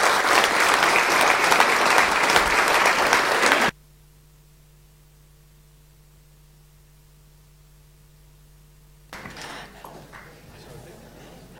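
A crowd applauds loudly with dense, continuous clapping, then it cuts off abruptly to near-silence with a low electrical hum before softer clapping resumes toward the end.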